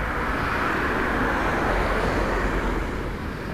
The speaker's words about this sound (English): There's cars driving by me this whole walk. Just car, car, car, car. It's fucking insane.